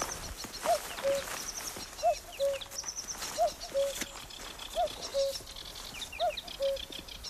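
A spring bird chorus in the Burren, with the cuckoo present, of busy high twittering and chirps, with a lower two-note call repeating at a steady rhythm about five times, all outdoors with no talking.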